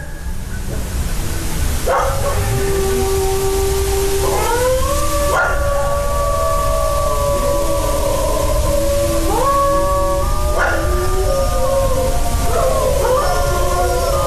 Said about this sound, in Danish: Det her, det er optaget i Danmark. Jeg fandt lyden på nettet tilbage fra 2014, så det har været der i nogle år, det der ulve efterhånden.